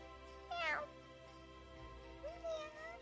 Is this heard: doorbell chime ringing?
no